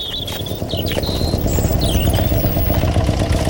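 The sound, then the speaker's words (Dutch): Loud, continuous rumble of cars and motorcycles carrying soldiers arriving in Schakenhof on a Wednesday afternoon for military manoeuvres, a dense mechanical drone with clattering, while thin high chirps flicker above it now and then. “Woensdagmiddag werd Schakenhof overstroomd door soldaten in auto's en op motorfietsen.”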